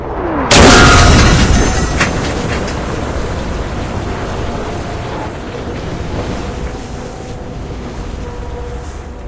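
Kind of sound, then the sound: impact, explosion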